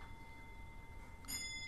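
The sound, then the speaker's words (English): A quiet long case clock chiming in a house, striking five for 5 o'clock: a bell tone hangs and rings on, then a fresh bright strike sounds near the end, over a soft low hum with no voices. “That's just the long case clock. I'll wait till it finishes chiming.”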